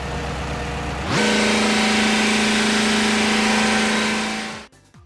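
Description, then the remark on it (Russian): A diesel engine driving a generator rumbles low, then, as its speed regulator linkage is yanked, abruptly surges into a loud, steady roar with a droning hum that holds for several seconds before cutting off suddenly. “Дизель заревел, как самолет на взлете, а генератор выдал в линию все, на что был способен.”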